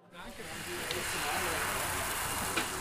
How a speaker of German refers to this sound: Wir hören zwar nur das Brutzeln, aber ich rieche es auch schon und es riecht wirklich herrlich. Wir sind hier nämlich bei der Mitmachstation und zwar zum selber kochen, zum Palatschinken machen